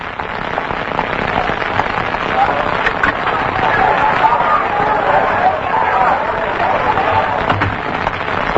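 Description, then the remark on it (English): A lynch mob, its leader drunk and carrying a rope, makes a dense, continuous clamor of many overlapping shouting voices that stays loud and fairly steady throughout, with a rough, crackling texture and no single voice standing out. “Not a crowd, Roy. A mob.”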